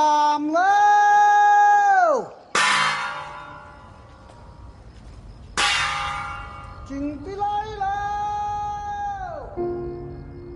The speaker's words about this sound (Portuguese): O filme ganha ainda um toque único por exibir os usos e costumes dos habitantes do sul da China, como os sons de gongo, que alertam as pessoas para tomar cuidado com o risco de incêndio durante a noite.